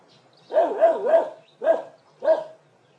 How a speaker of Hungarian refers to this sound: A kutyát? Szép kutya. És mérges. Nem szereti a bámulják, igaz, Leo?